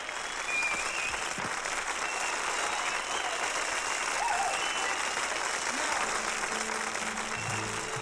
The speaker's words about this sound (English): More applause.